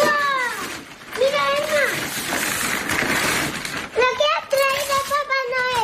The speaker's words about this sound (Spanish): El de la alegría de quienes han estado toda la mañana disfrutando de los regalos que les ha dejado Papá Noel.